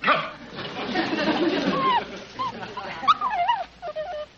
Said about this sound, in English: Yeah, I wonder if Puppy knows he's a mongrel.